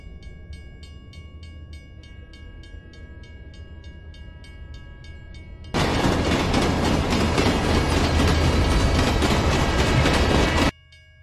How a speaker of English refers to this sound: I could hear the train getting louder and louder, like it was coming with a full head of steam towards her direction.